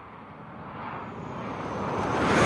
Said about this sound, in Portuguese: Agora esses aviões que são rápidos devagarinho.